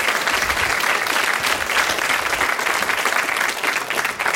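Sustained audience applause for the participants who spoke up at an evening gathering, a dense steady crackle of many hands clapping at a fairly loud, even level throughout, with no voices standing out.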